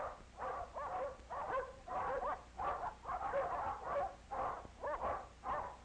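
dogs barking

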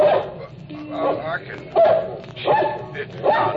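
dog barking

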